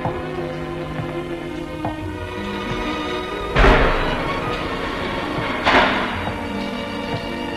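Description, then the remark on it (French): Two heavy, echoing slams about two seconds apart as heavy doors are shut and locked with big keys, booming through a reverberant space over a steady humming background with faint metallic clinks. “Des portes que l'on referme avec de grosses clés.”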